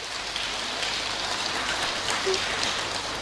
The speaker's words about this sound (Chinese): 你嚟睇，俾啲掌声呢位师傅。